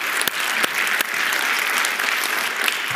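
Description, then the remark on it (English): A church audience bursts into steady, dense clapping, many hands slapping together in a loud continuous wash with a few sharper individual claps standing out, and no voices heard. “Now, you say, well, what are you clapping about? You ain't clapping for me. You're clapping for you.”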